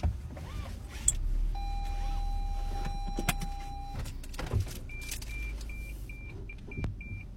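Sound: car being started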